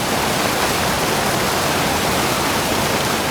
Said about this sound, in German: Und wenn man sich dann in diese Richtung aufmacht, dann wird aus dem Grollen irgendwann tatsächlich ein lautes Donnern und dann ist man an einem von Islands legendären Wasserfällen.